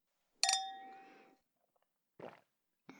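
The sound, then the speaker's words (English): A single bright clink of wine glasses touching in a toast, ringing out clearly and fading over about a second, followed by a couple of brief, softer knocks. “You know how to pour. You're a bit of a bartender, huh? Look at you go. Cheers.”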